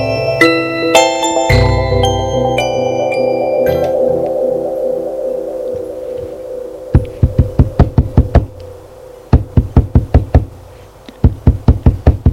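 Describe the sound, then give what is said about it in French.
A gentle musical passage fades, then three bursts of rapid, loud knocking on a door follow, each a quick series of sharp raps, with soft music still lingering underneath. “On frappe à sa porte, il se soulève”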